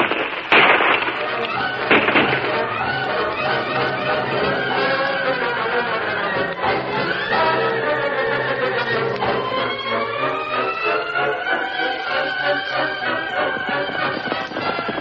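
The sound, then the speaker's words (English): Gunshots ring out in a shootout between men behind a rock and men out in the open, a few sharp, loud cracks at irregular intervals over a steady bed of dramatic orchestral music, with voices shouting in between. “I'll get him with the next shot.”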